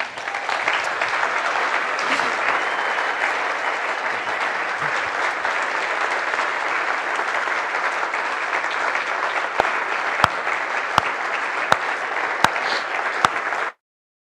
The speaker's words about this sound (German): Wir geben ihm einen Applaus.